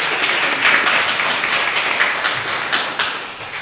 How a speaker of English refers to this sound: And just, I want her face to turn completely red right here, so that's, I'm kidding. Let's give McKenna a round of applause.